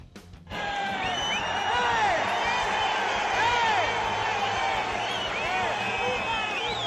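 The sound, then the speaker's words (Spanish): A large crowd of Real Sociedad football fans in San Sebastián, at the match against Anderlecht, roars and shouts in indignation as Anderlecht ultras throw glass and seats from the stand above, a dense, sustained wall of overlapping voices with rising, jeering cries and whistles, loud throughout after a sudden start. “Lo que escucháis son los gritos de indignación de los aficionados de la Real mientras 300 ultras del Anderlecht belga tiraban trozos de cristal y hasta butacas enteras desde la grada que ocupaban 10 metros por encima de la afición local.”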